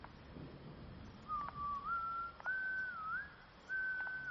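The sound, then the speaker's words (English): A person whistles a slow, wandering tune in several sustained phrases while walking around outdoors in the dark, over a steady background hiss like rain, with a couple of faint clicks along the way. “Alright, well, You have fun out here in the dark, walking around whistling like an axe murderer with your creepy army of...”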